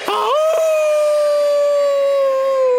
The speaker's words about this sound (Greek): Ξαφνικά ακούστηκε ένα δυνατό ουρλιαχτό.